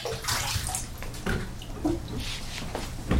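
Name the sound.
water sloshing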